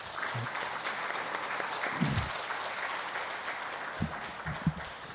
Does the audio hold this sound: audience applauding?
yes